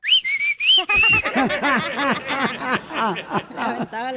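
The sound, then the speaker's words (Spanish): Loud human whistling in a few quick rising and falling bursts, the kind a parent uses to call someone's attention, then giving way to several seconds of hearty laughter. “Escuchen nada más cómo es regularmente el silbido que pues le llama la atención, ya sea el papá o la mamá, o los mismos cuates, ¿no?”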